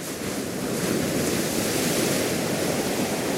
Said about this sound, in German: Perle im Indischen Ozean wird sie auch gerne genannt, die Insel Sri Lanka. Und die Touristen, die an ihren Sandstränden liegen und dem Rauschen der Wellen zuhören, wissen, warum.